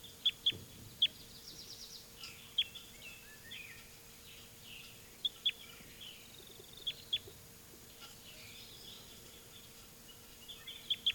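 Birds sing and chirp throughout, with sharp high-pitched calls popping out at irregular intervals over a soft, steady background of fainter twittering. No one speaks.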